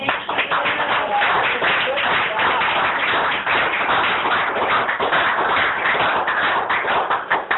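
An audience applauds steadily for several seconds, a dense, even wash of many hands clapping at once that stays loud throughout without fading.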